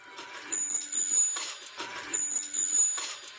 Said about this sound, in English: We see a shadow of the leprechaun pulling up outside against a dumpster with the back lit. You hear the damn tricycle bell, the ching, ching, ching, ching of the bell. It's so stupid.